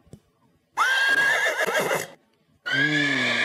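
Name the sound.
horse neighing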